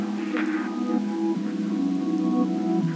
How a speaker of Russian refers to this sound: Идет дождь.